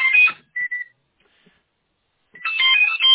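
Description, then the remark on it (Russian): A cordless phone base's electronic ring warbles in two loud bursts, separated by a short single-tone beep from a button being pressed on the base and a pause of near silence. No one speaks. “Кнопочка работает, пипикает. Но база не молчит.”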